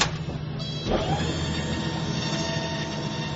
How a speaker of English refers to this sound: Mains are coming down. Is that gear down or what? It's not locked in. Freaking landing gear right hand side won't lock.